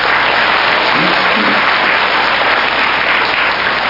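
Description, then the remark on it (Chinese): An audience at the Los Angeles New Era reading club breaks into steady, sustained applause for the volunteers who made CDs of the previous day's lecture, a dense wash of many hands clapping at even loudness for several seconds with no one speaking over it. “好，昨天我自己在那边嗡嗡睡的时候，已经这么多这么棒的志工来，等一下鼓掌一下。”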